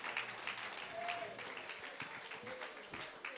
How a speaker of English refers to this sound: Clap your hands and give him some praise.